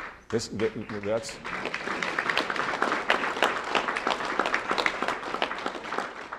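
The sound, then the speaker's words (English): A crowd of about 12 residents of the home, on stage with Rauner, breaks into sustained applause during his press conference, dense and steady clapping that holds at an even loudness for several seconds, with a brief voice or cheer rising at the very start. “And they interrupted his press conference quite a bit with applause.”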